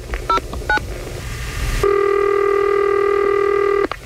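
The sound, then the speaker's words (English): A phone number is dialed on a keypad for a radio prank call to a man who rented and damaged a vehicle. Two short, bright touch-tone beeps sound over a low rumble, followed by a long, steady electronic tone that cuts off abruptly. No one speaks. “I'm going to call this guy, rented a vehicle, damaged it, and put a rim on himself.”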